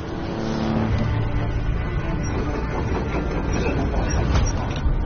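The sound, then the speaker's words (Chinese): The heavy diesel engine of a Japanese excavator fitted with a newly developed remote-control system runs steadily for several seconds during a demonstration, a dense low rumble with a faint mechanical whine on top, holding an even loudness throughout. “这台日本的挖掘机已经安装上了隋少龙团队研发的远程控制系统。”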